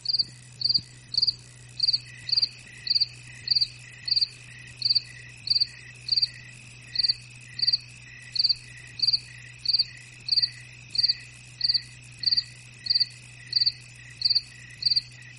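A cricket chirps in a steady, regular rhythm of short bright pulses, clear, over a faint continuous low hum, with no voices.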